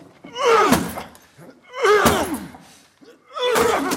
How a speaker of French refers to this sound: Il faut enfoncer cette porte. Je veux bien, oui, mais... Mais j'y arriverai jamais tout seul.